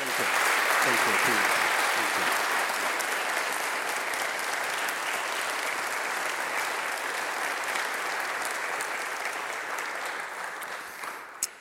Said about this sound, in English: if y'all would first, just give him a hand, applause, love him.